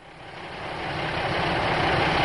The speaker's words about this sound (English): Oh, here comes the bus.